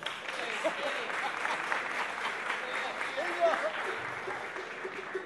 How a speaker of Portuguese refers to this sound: pedir uma salva de palmas pro compositor Chapinha